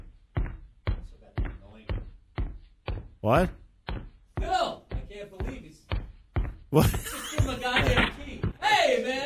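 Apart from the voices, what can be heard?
door being answered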